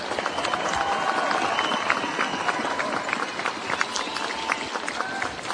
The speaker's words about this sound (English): The crowd rises to its feet as Nixon finishes his address. Turns and shakes hands with several of the other people on the podium with him.